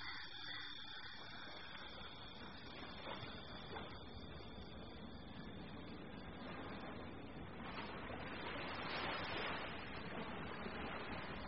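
Steady rushing wash of ocean surf, a broad continuous roar that swells a bit louder near the end, with a faint whine running underneath and no voices.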